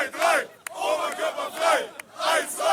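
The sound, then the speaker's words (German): A huge crowd directly in front of a stadium roars and chants in loud, rising and falling waves, about four swells in quick succession, with a couple of sharp clacks cutting through. “Das ist vor dem Stadion tatsächlich, direkt vor dem Stadion. Das ist ein riesen Menschen, ja.”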